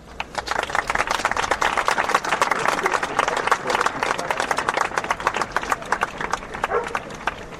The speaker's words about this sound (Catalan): Tots ells crec que avui es mereixen també, a part del nostre reconeixement, també un fort aplaudiment.